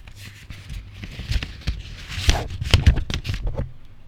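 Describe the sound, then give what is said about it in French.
Crackly rustling of a newspaper being crumpled, irregular bursts of crinkling that build in the middle and then fade out near the end. “Ce bruit d'un journal qu'on froisse.”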